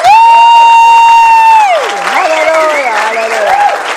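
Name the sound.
audience applauding and cheering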